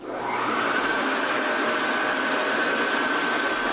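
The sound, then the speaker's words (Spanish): A truck tractor unit's cooling fan runs steadily and loudly, a constant airy roar with a thin whine on top, continuing without change for the whole stretch. “Este es el ventilador de la tractora.”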